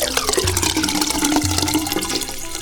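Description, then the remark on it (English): Rushing water swirls and gurgles down a drain, a loud, continuous flush with bubbling and churning throughout, no voices present. “Down the drain.”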